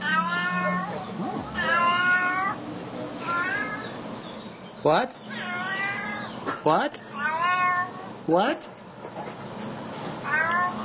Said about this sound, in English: And so he's actually, the cat is saying hello. Okay. And he's talking. So here is a cat that says hello.